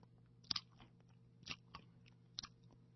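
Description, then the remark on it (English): Close-up chewing right at the microphone, with a handful of moist, crunchy bites arriving in irregular bursts over a low steady hum, and no one speaking. “It sounds like you're chewing on your chicken fried snake or something that you had for lunch, and you're doing it into the microphone, or you got some double bubble or something.”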